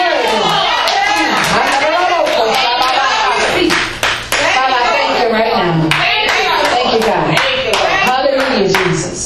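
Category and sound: crowd, audience clapping hands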